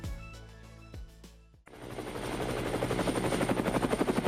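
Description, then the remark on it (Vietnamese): The last U.S. Air Force helicopters leave Saigon at 7 a.m. on 30 April 1975: a rotor chops rapidly and steadily, building in loudness as it passes overhead, preceded by a few sharp thuds and low rumbling. “Đúng 7 giờ sáng, những chiếc máy bay trực thăng cuối cùng của không lực Hoa Kỳ rời khỏi Sài Gòn.”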